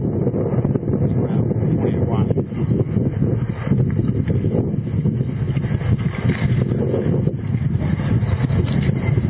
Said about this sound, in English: It's a windy and sunny day here.